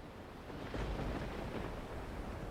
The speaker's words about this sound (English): A storm was coming, and before long, great dark clouds hid the moon.